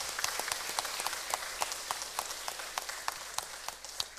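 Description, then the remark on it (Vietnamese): An audience at Giác Ngộ Pagoda in Vietnam, gathered for an organ and tissue donation event, claps steadily, a dense patter of many hands with sharper individual claps popping out, sustained without pause, with no voices. “Hãy cho một tràng pháo tay thật lớn nào.”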